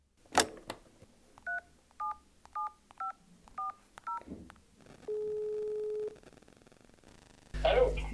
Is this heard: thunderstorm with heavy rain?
no